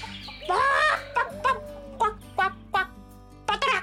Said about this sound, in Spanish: No había ido muy lejos cuando llegó a un corral lleno de hermosas gallinas, gansos y pavos.